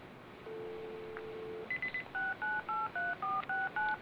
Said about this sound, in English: Now I'm going to try to call the police station and see if my phone is still blocked.